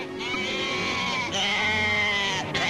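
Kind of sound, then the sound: animal, sheep bleating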